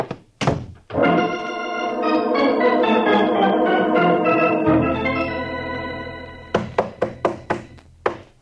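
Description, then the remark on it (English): Two thuds, then a long sustained chord of music, followed by a quick run of about six loud, sharp knocks in an even rhythm: a police sergeant rapping his knuckles on a locked door. “Are you coming on that door, Sergeant? I ain't made a dent in it yet. Well, save your knuckles.”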